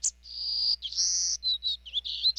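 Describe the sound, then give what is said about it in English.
A songbird sings a quick, high-pitched phrase of buzzy and whistled notes, several sustained trills followed by short bright chirps, clear and fairly close with a faint low hum beneath. “Now, this special songbird's future depends on people stepping up to protect our forests, from Nicaragua to Texas.”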